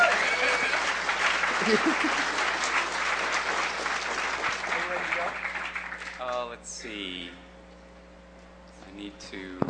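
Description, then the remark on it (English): An audience breaks into steady, full applause for a speaker involved in microcontrollers and the NoiseBridge hackerspace in San Francisco, lasting about six seconds, then thinning out as a man starts talking over the last scattered claps. “Give him a round of applause just for his hair.”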